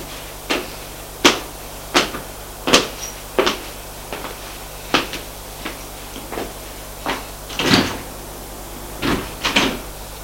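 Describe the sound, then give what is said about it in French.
An elevator in an apartment building hums steadily while about a dozen sharp mechanical clunks and door knocks ring out at uneven intervals, fairly loud, with no voices. “Ils vont prendre l'ascenseur.”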